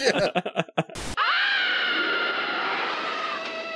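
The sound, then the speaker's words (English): A piercing, abrasive stock-sound-effect scream that begins a TV series theme song erupts after a few choppy vocal bursts and a sharp crash of noise, then holds loud and shrill for several seconds without letting up. “It sounds like a banshee stepped on a Lego or something.”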